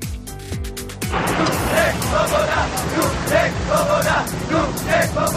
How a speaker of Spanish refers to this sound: Así protestaban los checos cuando en 1968 Praga fue invadida por los carros de combate soviéticos. Las protestas que estamos escuchando sirvieron para poco.